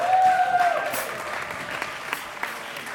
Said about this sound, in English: before we continue, can we get one more round of applause for all the student composers?